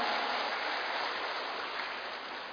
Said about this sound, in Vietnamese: Và để bắt đầu chương trình ngày hôm nay, xin toàn thể đại chúng dành một tràng pháo tay thật lớn để chương trình của chúng ta chính thức bắt đầu.